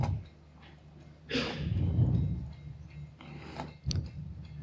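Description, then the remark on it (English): Quiet handling noises: a scraping, rubbing rustle as a tiny keyboard is plugged in and connected, followed by a short sharp click near the end. No one speaks. “I have a little, tiny little keyboard here, and if I connect it, that allows me to start playing some sounds, hopefully.”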